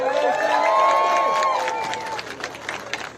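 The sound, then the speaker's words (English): A crowd roars and cheers loudly as former U.S. Representative Dennis Kucinich is introduced, with a piercing whistle riding over the din, then scattered clapping carries on as the cheering fades slightly. “So give it up for Dennis.”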